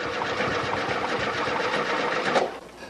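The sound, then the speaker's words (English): An old VW bus engine cranks over and over without catching, a fast, steady mechanical chugging that suddenly cuts off near the end, with no one talking. “and he has an old VW bus on the set, which of course never can get started.”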